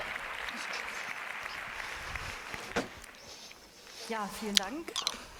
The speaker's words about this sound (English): Warm hand of applause one more time.